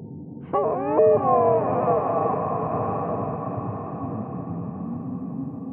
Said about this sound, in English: I try to make sense of the otherworldly sound. It's like an eerie mixture of a deer moaning in pain and a pregnant woman in the throes of the birthing process.